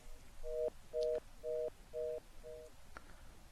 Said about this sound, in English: Was that Bill bleeping at us, or is Bill still around?